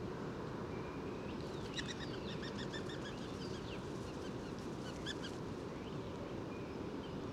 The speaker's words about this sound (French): Là, on vient d'entendre le sifflement des ailes. Et le roule-coulement caractéristique, très doux.